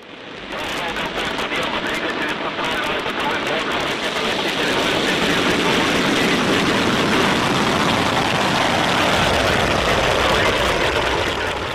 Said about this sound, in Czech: Dvacátého 3. března ve 13:36 našeho času odstartovala z rampy 31/6 na kosmodromu Baikonur raketa Soyuz 21A. Jejím nákladem byla pilotovaná kosmická loď Soyuz MS-25.